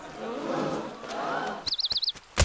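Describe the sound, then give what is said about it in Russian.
A burst of rapid fluttering wingbeats as a released flock of white doves takes off when a carriage door is opened, with a few quick high chirps, ending in a sharp louder flap after a murmur of background sound. “Глашатай открывает дверь кареты, Фиона и Шрека скрывает выпущенные стаи белых голубей. Голуби улетают.”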